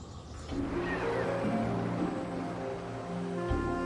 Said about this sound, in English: This is the mighty River Nile as it flows through the Egyptian capital, Cairo. Since antiquity, its unpredictable floods have determined the fate of Egypt's people, bringing years of lean and plenty.